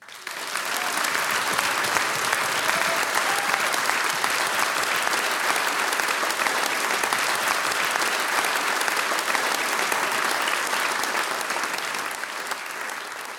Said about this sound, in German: Der Applaus, der gehört jetzt euch.